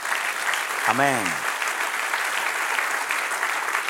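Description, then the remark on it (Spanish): A church audience applauds steadily in praise of God, a dense, continuous wash of clapping from a sizable group, with one voice briefly calling out over it near the start. “Dale un aplauso, sí, alábalo.”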